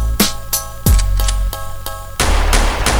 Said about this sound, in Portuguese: E eu vi uns tiros.